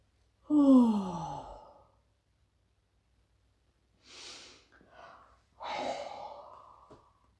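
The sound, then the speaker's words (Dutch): A person yawns a few times, starting with a long, voiced yawn that slides downward, followed by breathy exhales and another drawn-out yawn. No one speaks. “Een paar keer geeuwen heeft ook zo'n soort effect.”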